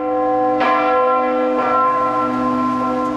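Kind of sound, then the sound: signal or alarm, church bells ringing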